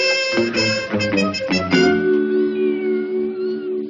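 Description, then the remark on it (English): A cat meows loudly, a quick series of short, insistent cries that stretch into one long, drawn-out wail. No one speaks. “Cats can be difficult at times.”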